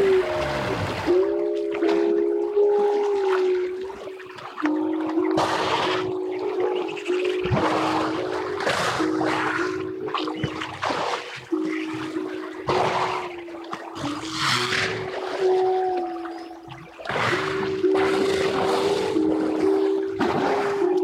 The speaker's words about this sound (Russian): То есть, это реальная запись в природе была сделана. Причем особенно яркую музыкальность моржей проявляется во время брачного периода, когда они начинают реально петь. Предлагаю послушать.